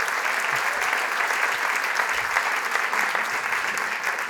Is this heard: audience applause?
yes